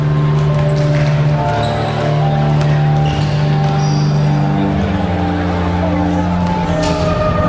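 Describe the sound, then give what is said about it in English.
Basketballs bounce steadily in a gym as a team warms up for a final game, overlapping thuds from several balls at once, with a murmuring crowd, scattered shouts and squeaking shoes underneath. “At the gym, the Hawks warm up for the final game.”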